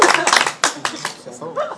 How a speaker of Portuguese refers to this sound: Uma salva de palmas.